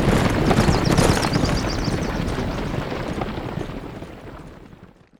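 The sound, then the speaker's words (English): A dense thunder of many horses' hooves pounding together as dozens of riders make their way toward the settlement of Paradise from the north, with no one speaking, loud at first and then gradually fading until it drops away near the end. “And there, out of sight, dozens and more dozens of riders made their way toward the town.”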